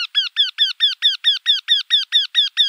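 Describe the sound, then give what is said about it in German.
A Eurasian wryneck, a woodpecker species, calls a rapid, even series of about a dozen loud, nasal, ringing notes, clear with no other sounds or voices. “Also zum Beispiel der Wendehals, eine Spechtart, hört sich verblüffend ähnlich an. Der klingt nämlich so.”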